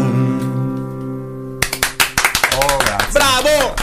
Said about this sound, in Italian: L'applauso non mi aspettavo. Grazie a tutti quanti. Tutti, tutti quelli che sono qua.